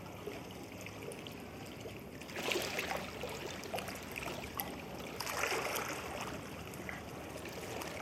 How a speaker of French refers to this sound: Approchons-nous de la rambarde métallique qui nous sépare de la rivière. Les eaux de l'île qui coulent en contrebas, rejointes par celles de la Bruche avant de franchir les 13 arcades du barrage Vauban, ont parcouru environ 190 km depuis leur source,